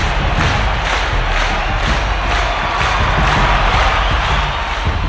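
A crowd of spectators claps in a steady unison rhythm, roughly two beats per second, accompanying fighters' feints and sudden sideways moves, over a constant loud roar of cheering voices, the clapping growing louder.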